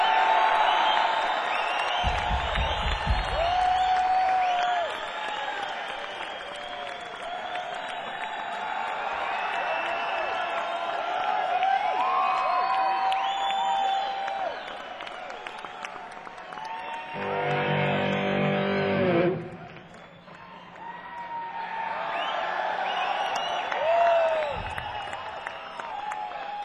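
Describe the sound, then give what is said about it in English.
A large concert crowd in San Francisco applauds and cheers continuously, with whoops and shouts rising over dense clapping; a brief low rumble interrupts near the middle before the cheering swells again. “Come on, San Francisco, let's hear it!”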